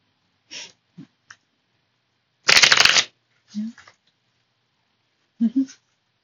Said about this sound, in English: Sorry, I'm trying to shuffle, but, like, these cards don't want to shuffle.